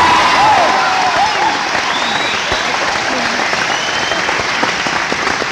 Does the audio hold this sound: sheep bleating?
no